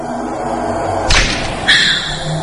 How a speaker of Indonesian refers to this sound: Dia berlari masuk kamar dan langsung menutup pintu kamarku.